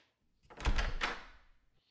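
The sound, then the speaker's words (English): A door is pulled open, a low wooden thunk followed by a brief rattling scrape that lasts about a second, with no voices around it. “Well, open the door and get a good look at him.”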